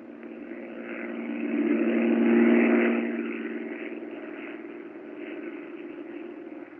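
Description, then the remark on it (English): The steady, low droning engine of Jack Knight's airplane, circling the airport at Bellefonte, hums on its own, swelling louder midway and then easing back to a constant whirring tone. “I can't stand listening to that plane up there circling the airport.”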